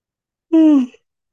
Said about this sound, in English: My yawns are not about fatigue. They're one way I process heavy energy, which is part of my job as a facilitator of the event.